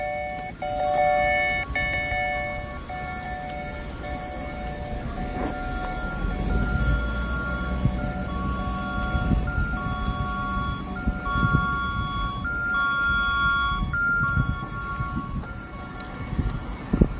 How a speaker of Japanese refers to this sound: このピンポンと音はですね、コルドンプラザの駐車場から車が出てくる音です。時に鳴る音ですね。